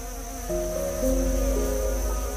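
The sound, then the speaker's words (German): A bee from a beehive buzzes, its droning hum rising and shifting in pitch as it hurries past. No one speaks. “In diesem Moment kommt auch schon eine von ihnen angeflogen und schiebt sich eilig an dir vorbei.”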